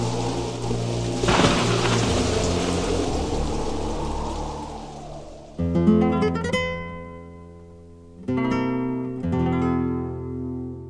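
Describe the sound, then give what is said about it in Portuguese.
A storm on the Río de la Plata: steady rain hisses with a sharp rumble of thunder early on, the storm filling the first half before giving way to music with sustained tonal chords. “Tempestade no Prata.”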